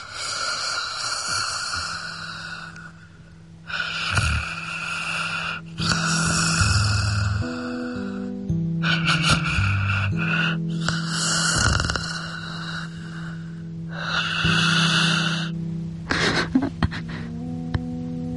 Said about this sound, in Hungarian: Az első pár taktus után beleszerettem ebbe a hangba. Nem értek nagyon a zenéhez, de szerintem ez a szuszogás a zene. Amikor meghallgattam, olyan béke szállt rám, amit csak akkor érez az ember, ha fölmegy a holdra és magával viszi az ágyneműjét.